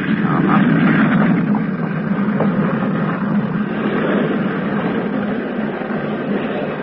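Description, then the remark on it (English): A steady, loud drone of an airplane engine as the plane taxis out to the runway, a constant low rumble with a hissing whine above it, unbroken for the whole stretch. “It's you and the plane now. Psych will take you both out to the runway.”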